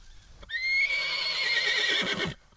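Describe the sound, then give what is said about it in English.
A horse, a mare about six years old, lets out one loud whinny lasting about two seconds, high and quavering before it trails off, with no one speaking. “This is Indy. This is my horse.”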